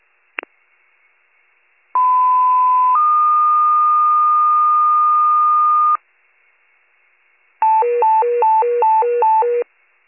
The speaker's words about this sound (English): Rescue alert, general tones, 255 Washington Street for smoke condition in the basement.